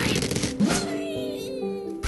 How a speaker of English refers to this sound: For kids today, maybe the sound of a catapulting bird in Angry Birds.